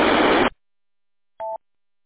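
A loud burst of harsh radio static cuts off abruptly, followed by a short pause and then a single brief electronic radio repeater beep tone, with no one speaking.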